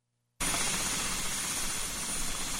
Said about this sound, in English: The sound of the Bell 407 helicopter fills the air as you get ready to take off. TVA personnel use helicopters to make aerial surveys of vegetation that's growing in the vicinity of high-voltage lines.